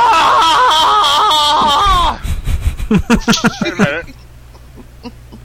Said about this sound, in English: Okay, now, no offense now, but I'm so depressed. I'm going to have to do a little primal scream therapy right here. So, okay. Here I go.